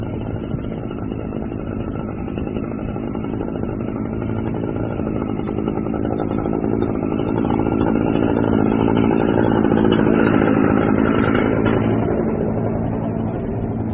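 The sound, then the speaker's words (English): The heavy engine of road machinery drones steadily with low rumble and clatter, swelling louder around the middle as it passes, then easing slightly toward the end. No voices are heard. “Passing by some road machinery.”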